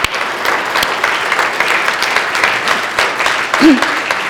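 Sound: audience round of applause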